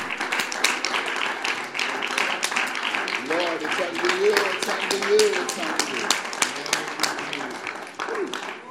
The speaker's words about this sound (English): Would you clap to the Lord a praise offering? He's the worthy one.